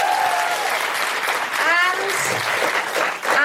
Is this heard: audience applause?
yes